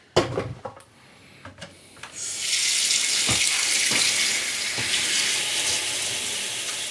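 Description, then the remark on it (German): A tap is turned on and water runs in a steady, hissing stream, preceded by a few clunks and knocks from handling the faucet. No one speaks. “In welche Richtung geht denn jetzt der Wasserhahn aus?”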